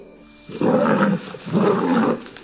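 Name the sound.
lion roaring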